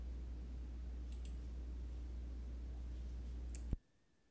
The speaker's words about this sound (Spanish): Y hacemos clic en siguiente.